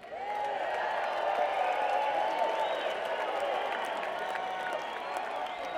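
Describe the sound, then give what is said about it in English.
An audience at a music performance applauds itself steadily for several seconds, a dense, even wash of applause holding a constant level, with faint cheers and whoops rising through it. “Give yourselves a hand.”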